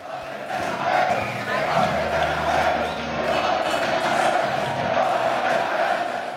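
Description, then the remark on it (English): A large stadium crowd at Real Madrid's Bernabeu roars and cheers continuously as Gareth Bale is introduced to them, a dense, steady wash of many voices holding at a loud level for several seconds with slight swells. “Well, earlier today, he was introduced to the crowd at the Bernabeu.”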